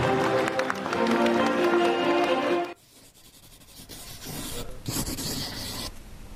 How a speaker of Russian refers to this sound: 2, 1! Друзья, давайте аплодисментами встречать их! Лада Веста!